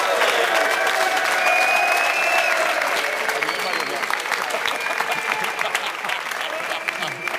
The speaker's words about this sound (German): Costa Rica hat das Tor geschossen gegen Japan. Ich merke hier Unruhe und Applaus.